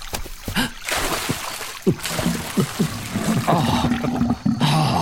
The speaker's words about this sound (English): A gentle bubbling spring.